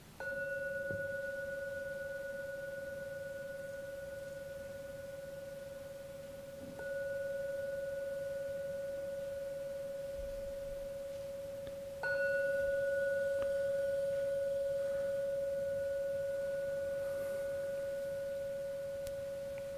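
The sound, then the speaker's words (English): A gong is struck three times near the end of a meditation, roughly six seconds apart, each stroke blooming into a steady, sustained mid-pitched hum that barely fades before the next. No one speaks. “And now we'll ring the gong 3 times.”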